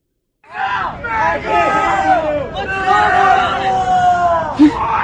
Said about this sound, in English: There's just about 20 seconds of video. It is three girls walking by and like a dozen of these guys yelling at them.